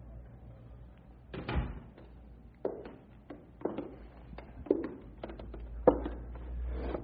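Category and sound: household object, door being closed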